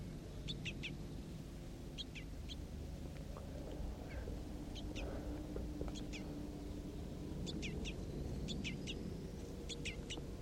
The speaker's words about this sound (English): So, recording the crossbills again, it's just about 9 o'clock a.m.